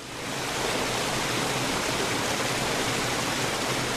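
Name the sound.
rushing river water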